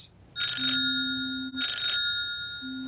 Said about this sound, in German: Das Handy klingelt.